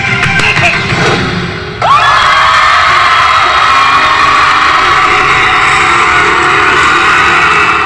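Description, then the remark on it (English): A large crowd at a Christian crusade meeting screams and cheers loudly and continuously, a dense roar of many voices that briefly dips, then surges back even stronger and holds at full intensity. “You know why people screaming like that?”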